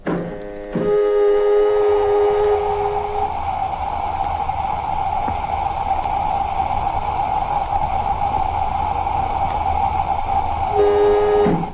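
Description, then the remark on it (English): An airlock filling with air: a loud, steady rush of hissing air layered with a droning, whistle-like hum, holding constant for about ten seconds before cutting off abruptly. “Filling airlock.”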